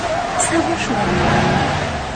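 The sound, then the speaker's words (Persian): A car engine starts up and drives off, its steady rumble building over a couple of seconds amid a constant wash of road and wind noise. “حبیب روشن کن بری.”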